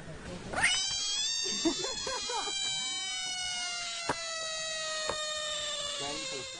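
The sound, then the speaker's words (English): A frog, picked up by a person, lets out a long, shrill distress scream, one sustained wailing cry that sounds eerily like a yowling cat, loud, with a few brief clicks partway through. “It's a screaming frog.”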